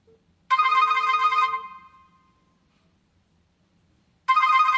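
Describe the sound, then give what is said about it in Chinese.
A loud electronic mobile phone ringtone for an incoming call plays in two bursts: a bright, harmonic ring lasting about a second that fades out, then a pause before it starts again. No one speaks. “好，这个时候我已经对方已经打电话给我了啊。”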